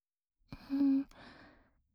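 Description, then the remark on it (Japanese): A single breathy exhale from the back of the throat, warm with body heat, a soft voiced sigh lasting about a second with a faint hum in it, then trailing off into quiet. “だったらこうして喉の奥から吐息を吐いて、体温がしっかりこもった吐息届けてあげますね。”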